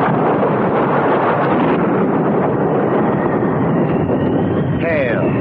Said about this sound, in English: At the windows and falls with a leaden sound on sod roofs. An immense rattle of wind, and she stirs.